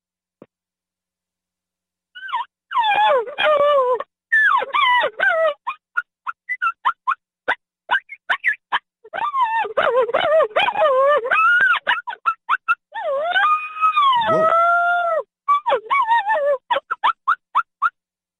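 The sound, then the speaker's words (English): Rapid, high-pitched chirps and whimpering yelps imitating a coyote in estrus, made on a diaphragm call, come in quick bursts with short pauses and several sliding whines, with no talking over them. “I'm going to do it on a diaphragm, but your chirps and your whippers for your estrus.”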